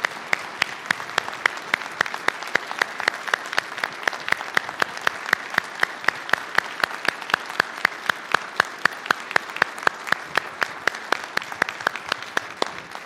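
A church audience applauds steadily for several seconds after a worship service performance by the choir, soloists, narrators and musicians, a dense wash of many hands clapping at once, fairly loud and even throughout, with no talking over it.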